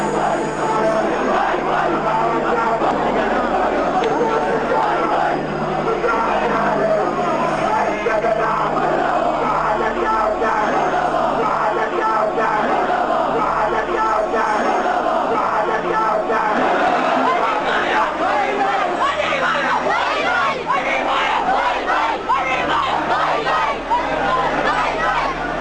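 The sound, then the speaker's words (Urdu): A large crowd chants slogans together, including "Ali Muawiya bhai bhai", in Kurram valley, Pakistan. Many voices yell loudly and steadily for the whole stretch, forming a dense, continuous roar of shouting. “ہم عالم اسلام کے غیور مسلمانوں سے سوال کرتے ہیں کہ کس منطق اور کس فکر پر عمل کرتے ہوئے نعوذ باللہ ثم نعوذ باللہ شہادت حسین مرد آباد، یزیدیت زندہ آباد اور علی معاویہ بھائی بھائی جیسے دل آزار اور شرم انگیز نعرے لگانا جائز ہیں؟”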